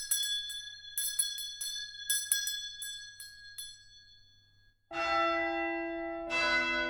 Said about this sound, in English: Ring the bell. You ring the bell. Really quite fantastic sound. The sound of the bell. Ring the bell. You ring the bell. I ring wherever I can, whenever I can. Because I love bell ringing.